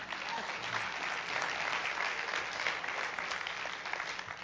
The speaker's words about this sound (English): Great job, praise team. Hallelujah. Great. Y'all ought to give them a hand clap. My goodness.